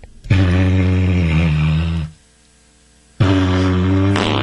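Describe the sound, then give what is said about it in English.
A didgeridoo being blown: a loud, deep buzzing drone held for nearly two seconds, a short silence, then a second drone starting up, rich with rough overtones. “just playing your didgeridoo”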